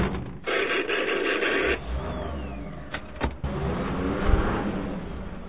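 A jeep drives steadily through dark underground salt mine tunnels with a continuous engine rumble and road noise, a brief whirring sweep early on and a couple of sharp clunks later.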